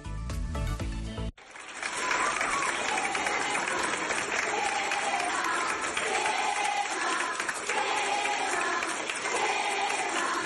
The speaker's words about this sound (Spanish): Bueno, y esta ovación es por fin de curso, en parte, porque fue en el Colegio Peleteiro, pero no porque terminaran las clases.